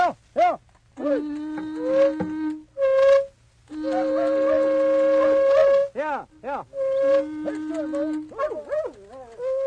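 A fox hunting horn blown to gather up the dogs for a fox hunt, in several long, steady, buzzy notes, with shorter wavering, rising-and-falling howls breaking in between the blasts. No talking.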